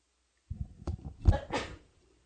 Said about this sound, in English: Oh, man. I think I have to sneeze.